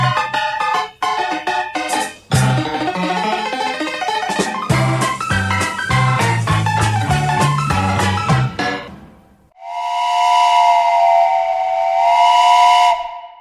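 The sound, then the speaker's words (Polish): A lively instrumental music passage plays, then breaks off into a long, loud steam train whistle, steady and hissing for a few seconds, as a passenger train sets off from Koluszki station. “Ze stacji Koluszki rusza pociąg osobowy.”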